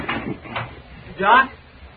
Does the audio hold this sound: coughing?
no